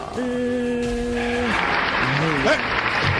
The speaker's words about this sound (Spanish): ¿Y por qué para él si hay aplauso?